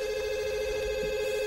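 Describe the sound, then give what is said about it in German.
A telephone rings with a steady, buzzing electronic tone that holds unbroken for the whole moment, clear, with no voices over it. “Und dann klingelt schon wieder das Telefon.”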